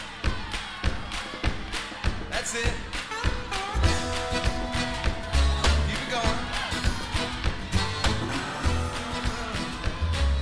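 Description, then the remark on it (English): An audience stomps and claps together in a steady rhythm before singing "This Little Light of Mine", heavy low thuds under sharp hand claps, while a voice briefly calls out encouragement over them. “You guys stomp your feet like that? And let's clap together.”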